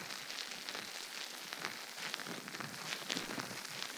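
A carbonated drink fizzes steadily, a dense, hissy crackle of countless tiny bubbles popping at an even, fairly quiet level throughout, with no voices.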